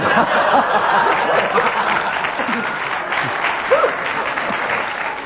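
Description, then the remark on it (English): Sustained applause from an audience, a dense steady wash of clapping lasting the whole stretch, with a few faint chuckles and murmurs mixed in underneath. “I think we'll give you a bonus point for that round of applause, because your remark gained that spontaneous reaction from the audience.”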